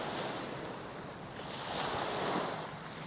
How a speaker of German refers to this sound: Mit meinen Schuhen in der Hand schlendere ich barfuß durch den weichen, warmen Sand und von Zeit zu Zeit umspülen seichte Wellen meine Füße.